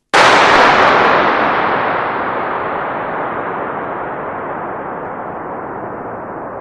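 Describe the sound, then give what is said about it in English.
A single sharp starting pistol shot, fired to measure the acoustics of a cathedral-sized hall built of a vast concrete arch, rings out, followed by a long, roaring reverberant tail that fades only slowly over several seconds, its bright edge dulling into a low rumble. No voices. “And, we fired a starting pistol in there, exactly the same one you just heard in the anechoic chamber, to measure the acoustic.”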